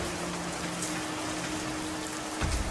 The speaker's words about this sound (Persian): نبندش بذار ببینم این طوفان چطور میخواد دنیا رو بشوره.